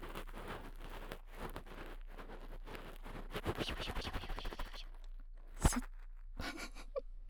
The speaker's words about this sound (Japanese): わしゃわしゃやる音をいっぱい取るときはシャンプーがおすすめです。はい超おすすめです。